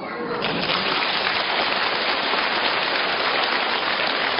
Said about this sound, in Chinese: 这是第一次鼓掌，接下来跟你们说第二次鼓掌。